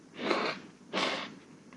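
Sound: nose blowing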